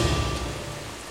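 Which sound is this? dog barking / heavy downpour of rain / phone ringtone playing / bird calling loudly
heavy downpour of rain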